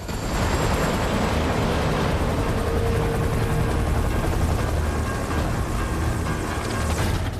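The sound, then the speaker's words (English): A helicopter with passengers aboard roars loudly and steadily as it flies off after hovering, its heavy rotor thrum and engine rumble filling the whole stretch with no pause and no voices. “The chopper flies off.”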